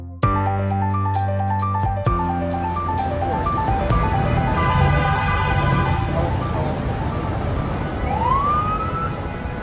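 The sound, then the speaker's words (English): Busy Manhattan street noise in the morning: a steady roar of traffic with long, sustained car horns blaring at the start, screeching buses, a siren rising near the end, and indistinct voices mixed into the din. “Ah, the sweet sounds of morning in Manhattan.”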